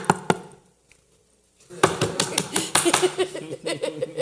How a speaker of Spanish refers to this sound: this is not just a gentle knock. No es tan solo un golpear gentil. Knocking at the door. No es ese golpear a la puerta gentil. It means this. Significa esto.